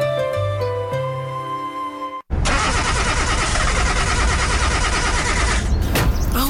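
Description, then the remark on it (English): Brief tonal music gives way to a loud car engine grinding and cranking for about three seconds without catching, then cutting off abruptly; the car is failing to start. “The car's not starting.”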